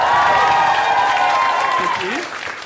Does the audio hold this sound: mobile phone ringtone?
no